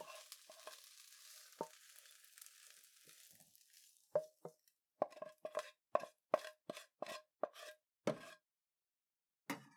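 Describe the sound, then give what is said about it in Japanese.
A soft sizzling hiss fades out, then a quick series of scraping clinks as food is scooped and served onto a plate for dinner, about a dozen short strokes in an uneven rhythm. “さあ、お皿に盛り付けて夕食にしよう。”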